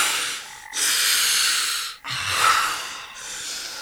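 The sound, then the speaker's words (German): A man who has nearly suffocated from lack of oxygen gasps for breath in deep, ragged heaves: three long rasping inhalations, each separated by a brief pause, with no talking. “Er wird beinahe erstickt. Gott. Atmen, …. Atmen.”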